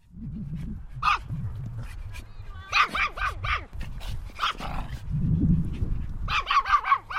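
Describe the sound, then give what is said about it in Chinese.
Dogs bark repeatedly in quick, overlapping bursts, with rapid runs of sharp, high yips and a few whimpers over a low, rumbling outdoor background, at a hillside dog park where dogs run and play on a large lawn of about 3500 square metres. “打开铁门进入后，眼前是一大片辽阔的草地，草地的面积约为3500平米，小狗可以在草地上任意地奔跑玩耍。”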